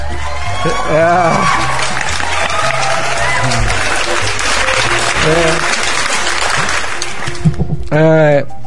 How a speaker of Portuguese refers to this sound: Comemoração do Dia do Psicólogo, né? Cadê os aplausos do psicólogo?